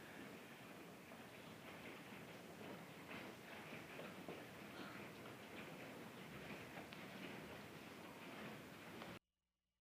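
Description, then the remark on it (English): Hail pelts down steadily in a dense, continuous clatter of countless small ticking impacts on hard surfaces, loud, with no voices, until it cuts off abruptly near the end. “Stop and enjoy the hail.”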